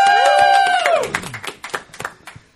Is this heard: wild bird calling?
no